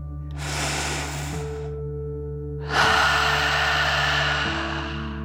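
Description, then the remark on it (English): A slow, deep inhale through the nose followed by a longer, forceful breathy exhale through the mouth, done as a relaxing 'dragon breath' exercise, fairly loud over a steady low hum. “Breathe in through your nose, filling up your belly, and then out through your mouth, pretending you are breathing fire like a dragon.”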